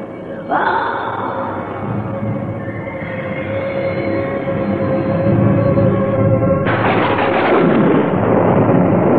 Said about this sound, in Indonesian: Seiring ledakan petir, maka menggeliatlah kilat disusul dengan pendaran cahaya yang kian menggumpal.